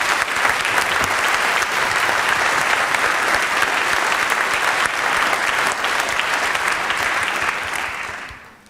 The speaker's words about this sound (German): Deshalb an dieser Stelle bitte einen herzlichen Applaus